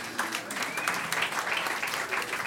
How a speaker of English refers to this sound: Applause ripples slowly from the back right side of the room. Much of the rest of the crowd is, we did not come here today for this.